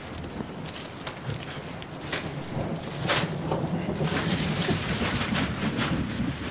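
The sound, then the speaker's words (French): Steady rain patters outdoors in a dense, continuous hiss, growing a little louder partway through, with scattered sharper taps and soft movement sounds. “Il s'est mis à pleuvoir, c'est bon signe.”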